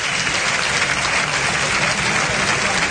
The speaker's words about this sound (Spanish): Y dejando un par de banderillas en todo lo alto que se aplaude.